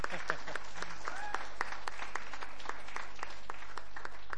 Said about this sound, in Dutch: Ja, mogen klappen ook hoor.